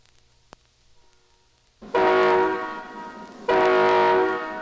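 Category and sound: vehicle, passenger train passing by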